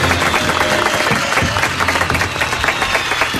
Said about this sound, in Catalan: Moltes felicitats. Vinga, aplaudiu. Vinga, ara sí.